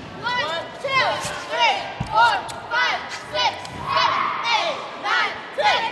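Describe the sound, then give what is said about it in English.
A group of girls in Concord shout and call out over one another, echoing, as they warm up for their last game of the regular season, with a basketball bouncing and thudding on the floor beneath the chatter. “the girls in Concord are warming up for their last game of the regular season.”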